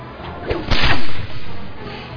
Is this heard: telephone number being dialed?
no